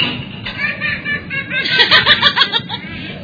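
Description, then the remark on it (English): Canned audience laughter: a crowd of mixed voices laughing in rhythmic, bubbling bursts, swelling louder about halfway through and holding steady to the end. “I didn't hear any canned laughter at all.”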